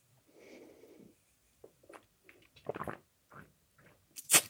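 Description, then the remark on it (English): A quiet slurping sip of a drink followed by small wet mouth clicks and a couple of swallowing gulps, ending with a sharp clink like a glass being set down. No talking. “Let me just have a little sip of my drink.”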